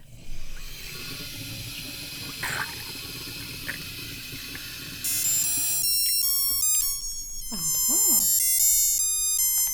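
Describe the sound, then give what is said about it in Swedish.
Running water pours steadily, then a small orange battery-powered liquid level indicator, hung over the edge by two downward prongs, starts playing a short, high electronic melody of quick stepped beeps over the fading splash as the water reaches the prongs and closes its circuit. “Ja, det är nämligen så att när vätskan når upp till de här så sluts ju kretsen och så börjar den spela.”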